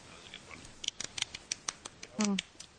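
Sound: applause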